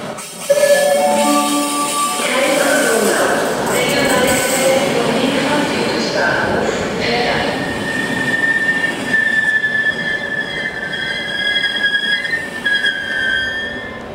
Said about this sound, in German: Jetzt bin ich hier am Bahnhof. Jetzt werde ich mal warten und schauen, ob der kommt.